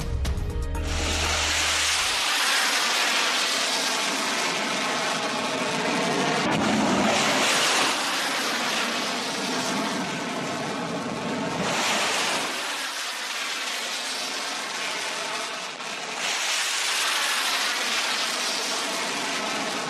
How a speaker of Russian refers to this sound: Очередной удар по военным объектам вооруженных сил Украины был нанесен из акватории Черного моря. Кадры залпового пуска сразу 6 крылатыми ракетами на ваших экранах.